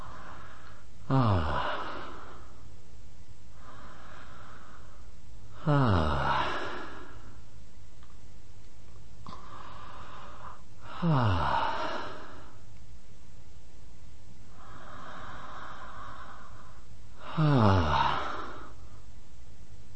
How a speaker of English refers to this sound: I'll play it for you again. Big sound in the yawn.